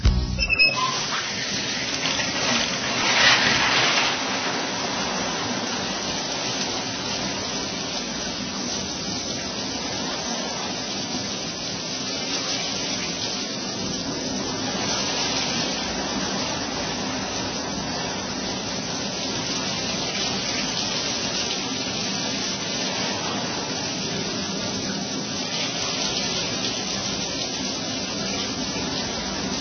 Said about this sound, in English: If this is the longest you've heard a shower run lately, you've let the cookies and carpools and chaos push you into a dark and ugly corner of mommying.